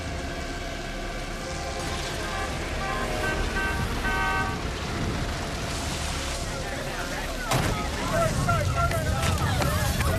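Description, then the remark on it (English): Car engines rumble and whine as two cars pull up on the road outside a nightclub engulfed by flames, scattering spectators onto the pavement amid busy background noise, then a single sharp car door slam cuts through, followed by continued commotion and indistinct voices. “His gang arrives in two cars, scattering a group of spectators onto the pavement. Tommy slams his car door and rushes over to Eddie's side.”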